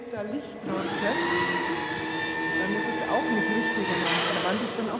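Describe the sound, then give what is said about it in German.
A steady, loud mechanical drone with a whining tonal hum rises in after a short pause and holds throughout: a subway train rumbling along a U-Bahn line beneath an underground art exhibition hall, a long tube with a concrete ceiling and bare concrete pillars, echoing. “Der Kunstbau, der Ausstellungsraum des Lehnbachhauses, liegt unter der Erde, über einer U-Bahn-Linie.”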